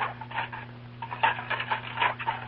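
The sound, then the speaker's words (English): Dinner dishes being washed, with a busy, irregular clatter and clink of crockery, fairly loud, over a steady low hum. No one speaks. “Well, it's Mrs. Brown washing up the dinner dishes.”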